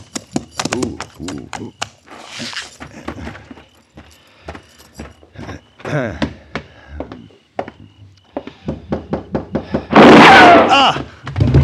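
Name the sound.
gunshot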